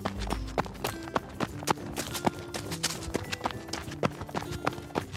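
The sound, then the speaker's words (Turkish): Quick running footsteps patter in a steady, rapid rhythm, fairly crisp, continuing for several seconds with a faint tonal hum beneath them. “Pamuk bir o yana bir bu yana koşmaya başladı.”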